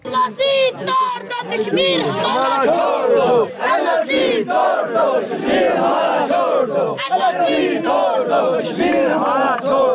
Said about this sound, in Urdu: مارچ میں شامل liberation front کے حامی آزادی اور رکاوٹیں ہٹانے کے حق میں نعرے لگاتے رہے.